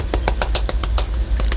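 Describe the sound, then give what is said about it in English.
About ten quick, sharp hand claps in a fast, steady rhythm with a slight pause near the end, over a low rumbling background hum, recorded at the Allen County Public Library. No one speaks. “I'm clapping, not fapping.”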